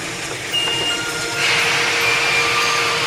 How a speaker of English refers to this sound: I walked to my window, and from outside came the sounds of hissing steam and squeaking metal.